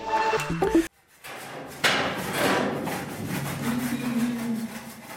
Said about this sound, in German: Das Fundament und der Keller des neuen Betriebsgebäudes sind fast fertig. Zwei Maurerlehrlinge entfernen mit lauten Hammerschlägen Holzpaletten, die die letzten Tage die Betondecke vom Keller gestützt haben, während der Beton getrocknet hat.